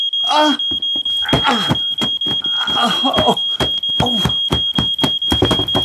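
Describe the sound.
A smoke alarm in a student house sounds a steady, piercing high-pitched tone throughout, continuing under several people talking quickly and anxiously over it. A fire had been beaten out.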